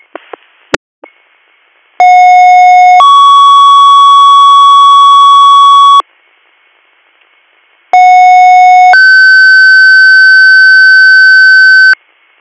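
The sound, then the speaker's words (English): Two-tone dispatch paging alert for Greater Valley MS, third due tones calling a medic to assist Ambulance 31 at 968 East River Road, Nichols: a short lower tone steps up to a long sustained higher tone, then a pause and the pair repeats, loud and clean after brief clicks. “Greater Valley MS, third due tones for medic to assist.”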